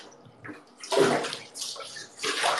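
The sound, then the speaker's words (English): Water sloshes and swirls in a bathtub as someone stirs it into a tornado, in three broad, hissy surges, each swelling and fading over a moment, with quieter gurgles between them and no talking. “No, I'm just causing a tornado. Yeah. What kind of bath have you been in?”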